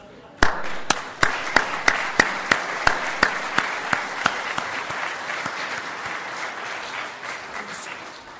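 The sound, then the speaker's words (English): An audience bursts into applause for mothers in the morning, a dense wash of many hands clapping with a strong, evenly spaced rhythmic beat that gradually softens and thins out toward the end. “Mothers, this morning, we applaud you.”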